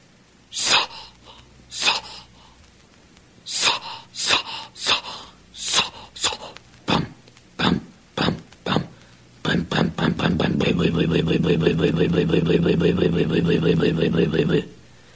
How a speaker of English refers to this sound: I stepped into the cockpit to loosen her up with a few turns. You could hear it were cold, so I advanced the spark and gave it more choke and cranked her up in earnest.